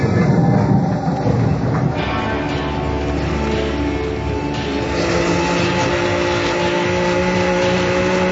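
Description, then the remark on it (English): A steady, heavy mechanical rumble with droning tonal whines rolls on continuously, like a subway train running through a tunnel, loud with no voices. “And don't tell me the train got stuck in the tunnel again.”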